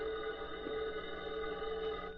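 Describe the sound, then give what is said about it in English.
A telephone rings in Bargo's office with a steady, unbroken electric tone that holds for a couple of seconds at moderate volume, with no voices. “Meanwhile, Bargo received a phone call.”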